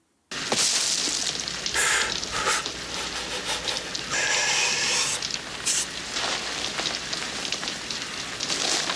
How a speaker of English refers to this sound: Yeah, that's what I call a campfire.